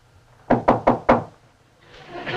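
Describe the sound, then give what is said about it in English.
Four firm, evenly spaced knocks on a wooden door by Uncle Albert, loud, followed by a soft hiss of background noise rising afterward. “Our furniture's on its way back, and Uncle Albert will be knocking at the door any second.”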